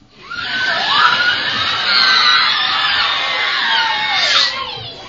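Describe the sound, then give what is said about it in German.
Voices, acting as sound effects for a text read aloud, imitate a long, drawn-out creak of grandfather's ancient wardrobe doors swinging open, a wavering, groaning squeal with sliding pitch that fills the whole moment, loud. “Also, und als gäbe es nichts Normaleres auf der Welt, öffnen sich plötzlich die Türen von Opas uraltem Schrank mit einem lähmenden.”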